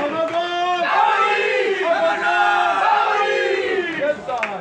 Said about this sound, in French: Le podium. Ils finissent à la troisième position avec un temps de 3, 31 et 32 secondes. L'équipage des Amazones. On applaudit bien fort s'il vous plaît les Amazones.